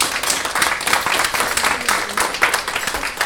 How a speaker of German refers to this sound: einen kleinen Applaus.